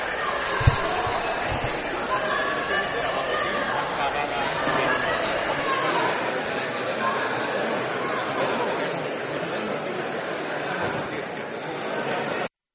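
A crowd of protesters in a parliament gallery shouting and chanting 'Aborto es sagrado' (abortion is sacred) together in a steady, dense roar that barely lets up for about twelve seconds, with a brief sharp knock near the start.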